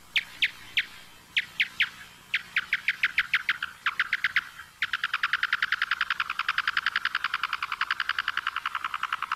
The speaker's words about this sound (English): Yeah, so what we're listening to are calls produced by the big brown bat, the local species, and it's going after insect prey.